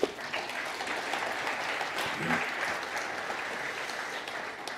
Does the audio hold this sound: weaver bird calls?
no